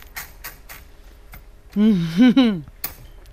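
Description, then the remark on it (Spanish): Sparse, sharp typewriter key strikes clack at an unhurried pace, broken midway by a short tonal, whirring sweep before a final strike. “Me lleva a los 10 años, cuando yo pido en mi casa que me compren una máquina de escribir.”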